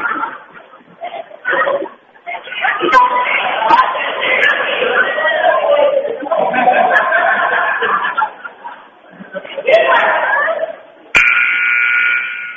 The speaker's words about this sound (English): And the buzzer will mark the start of the fourth quarter.